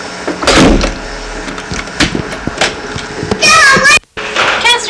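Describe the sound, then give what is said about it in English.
A door is pushed shut and locked with a few solid clunks and rattles, followed by high-pitched children's voices chattering. “And do you want to close this door? I'm locking. You're locking this door.”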